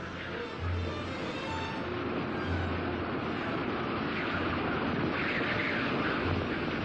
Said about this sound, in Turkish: Kış aylarında ısı eksi 50 dereceye düşer. Rüzgar saatte 100 kilometre hızla buz ve kar savurur.